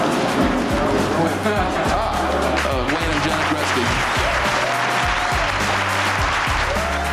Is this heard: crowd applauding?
yes